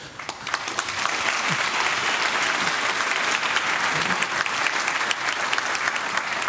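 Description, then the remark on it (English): An audience claps steadily for several seconds for two co-founders sitting in the front row, a dense, even patter of many hands that swells in after a quiet start and holds at a fairly loud level throughout. “They deserve an applause anyway.”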